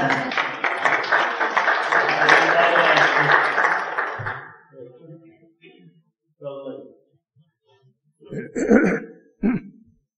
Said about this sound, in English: I didn't hear what we were clapping for